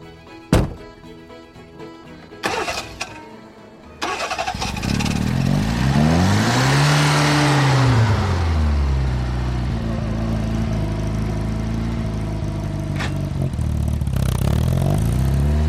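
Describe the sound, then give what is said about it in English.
The door of a three-wheeled Reliant Robin car thunks shut, then the engine starts up, revs and rises and falls in pitch before settling into a steady hum as the car drives along. “Well, I've never been in one of these Robin Reliance before. I've never been in a three-wheel car before, so this is all quite exciting stuff.”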